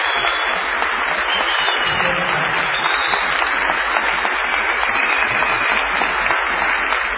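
Sustained ovation from a large theatre audience at the Teatro Mercedes Sosa in Tucumán, Argentina, a dense steady wash of many hands clapping at an even loudness throughout, with no clear speech.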